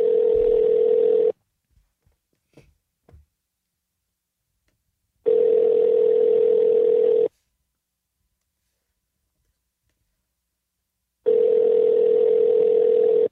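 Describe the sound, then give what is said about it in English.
Ringback tone of an outgoing phone call: a steady, buzzy mid-pitched tone in three loud two-second bursts separated by about four seconds of silence, with a few faint clicks in the first gap. “I'm currently letting a phone ring.”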